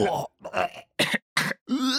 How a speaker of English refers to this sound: So I grabbed a bunch of people around the office, and we recorded ourselves gagging in lots of different ways.